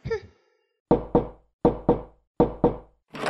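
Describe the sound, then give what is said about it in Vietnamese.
A honeycomb-style rubber slipper swats a cockroach in a recording studio: six sharp, loud smacks in three quick pairs, each pair a double whack with a brief pause before the next. “Mình vừa tiễn một chú gián lên thiên đường, giờ thì yên tâm ngồi thu được rồi.”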